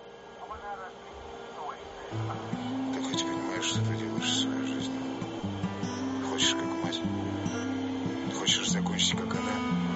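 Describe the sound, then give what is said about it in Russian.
A Russian rap track: a male voice rapping quickly in Russian with slightly rolled r's over a steady beat with a deep, stepping bassline, playing continuously at moderate loudness throughout. “来感受一下他带有一些小卷舌的俄语说唱风格。”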